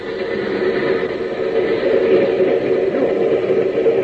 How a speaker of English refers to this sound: Train's coming in on the next track.